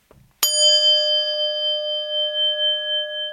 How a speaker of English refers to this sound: So to begin meditation, we ring the bell 3 times.